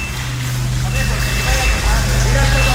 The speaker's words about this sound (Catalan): És el so amb l'aigua present, el so que deixen els treballs dels bombers traient aigua d'un aparcament subterrani de Gandia.